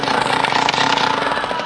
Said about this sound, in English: The soloists in tonight's performance are Little Timothy on the Rosebud Junior Assassin Machine Gun.